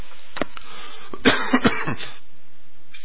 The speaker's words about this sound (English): Sorry for the coughing, folks. I'm coming down with some respiratory stuff.